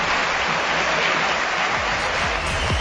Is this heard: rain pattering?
no